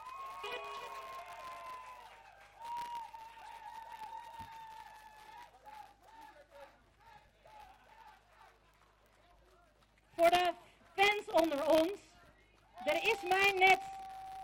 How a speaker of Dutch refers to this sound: Nog één applaus.